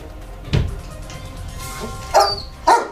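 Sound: dog barking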